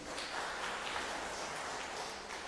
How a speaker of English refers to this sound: Yes, clap.